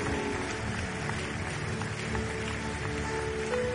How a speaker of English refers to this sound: Koinonia, keep clapping. It is your sacrifice. You are encouraging them as they come.